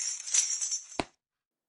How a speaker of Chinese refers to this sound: 哎呀，摔碎了。水杯都碎了呢，这里是最后一点水了。